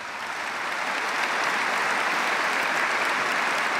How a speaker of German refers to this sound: Der Applaus der Aktionäre dauerte eine knappe Minute. Anerkennung für einen Unternehmenschef von Weltrang, wie es der Aufsichtsratsvorsitzende vorab formulierte.